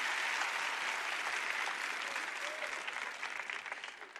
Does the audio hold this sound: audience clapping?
yes